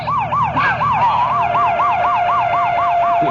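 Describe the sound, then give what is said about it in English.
A police car siren blares loud in a rapid, repeating yelp that rises and falls several times a second, over a steady tone and a low engine rumble, with no talking, as officers respond to a robbery in progress on 47th Street. “Hey, hit the lights and the siren.”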